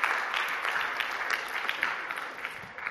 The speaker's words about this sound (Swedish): Ja, det är bra. Jag tycker ni kan ge det en applåd. Fantastiskt.